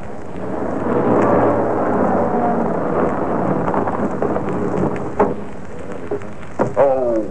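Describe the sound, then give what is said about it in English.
Heavy rain pours down in Bay Tree Road, Brixton, as a car pulls up, in a steady, dense hiss while a deep roll of thunder rumbles beneath it, swelling early and then easing off, with a few sharper cracks and splashes near the end. “For at the precise moment it began to fall in real earnest, a car pulled up in Bay Tree Road, Brixton.”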